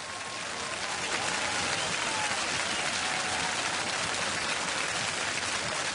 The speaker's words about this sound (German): Applaus. Applaus per Knopfdruck. Das plant die CSU heute auf ihrem kleinen Parteitag.